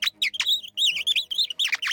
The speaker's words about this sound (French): Vous n'avez pas entendu chanter ? Ah bah oui, c'est le rossignol. Ah oui, c'est le rossignol.